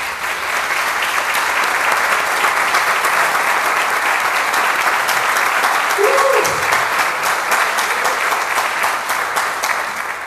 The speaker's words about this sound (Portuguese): Vamos aplaudir?